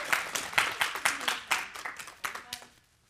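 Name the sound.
audience clapping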